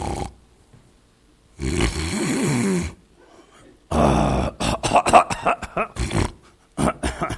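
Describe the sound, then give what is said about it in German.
Fairly loud, peaceful snoring: one long rasping breath followed by a quick run of short snorts and snuffles, with brief quiet gaps between them and no talking. “Und hier öffnest du den Chat, also, und dann, und das hört sich an wie so ein friedliches Schnarchen.”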